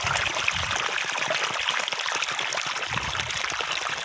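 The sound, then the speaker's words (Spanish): A steady stream of water gushes and splashes continuously from an irrigation outlet to water cabbages in a vegetable garden, with a broad hissing wash and bubbling low gurgles, no voices over it. “Aquí está saliendo el chorro para regar la berza.”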